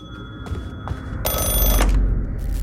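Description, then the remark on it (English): A telephone rings at around 10:30 in the evening in a burst of rapid bell-like trills, fairly loud, over a low rumbling background with no voices. “At around 10:30 that evening, Ruth's phone rings.”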